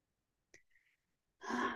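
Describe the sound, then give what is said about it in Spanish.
A brief, faint intake of breath through the nose, a short pause, then a loud, breathy exhale through the mouth, like a voiced sigh, with no talking: a deep breath taken during a guided meditation session. “Vamos a tomar unas cuantas respiraciones profundas. Inhalando por la nariz, llenando bien el pecho. Y soltando el aire por la boca si queremos.”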